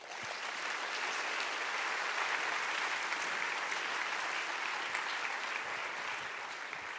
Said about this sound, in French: Et je remercie tout spécialement aujourd'hui les 25 porteurs d'ateliers qui vont se dérouler cet après-midi, qui sont des membres du MCC, mais aussi des partenaires. On peut les applaudir.